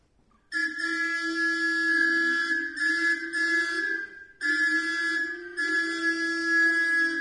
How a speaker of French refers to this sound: Elle klaxonne frénétiquement.